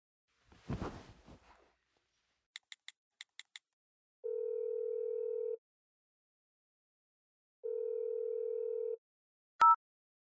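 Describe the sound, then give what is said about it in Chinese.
A handset rustles, a quick run of six short dialing beeps follows, then two long, steady ringback tones separated by a pause, ending with a sharp click as the line connects. “你可以打电话给他，问一下。”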